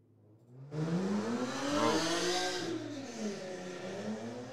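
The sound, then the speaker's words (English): A loud motorcycle or hopped-up car engine suddenly roars in, revving hard with rising and falling pitch, then settling into a sustained rumble as it passes. “That must have been a motorcycle or something that went really loud.”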